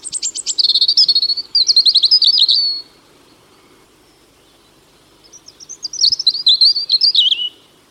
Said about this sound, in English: The robin is one of the most familiar birds of the UK, regularly visiting gardens. Robins are also common in parks, scrub and woodland, making their presence known with a loud, territorial song.